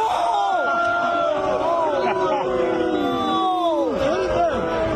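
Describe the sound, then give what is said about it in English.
A large, hostile golf crowd jeers and shouts at once during a confrontation with Rory McIlroy, many voices overlapping in loud, drawn-out cries that slide downward in pitch, a continuous hostile roar filling all five seconds. “golf was played out in front of a tense, hostile crowd, leading at one point to this confrontation, where Rory McIlroy used an expletive to try and silence them.”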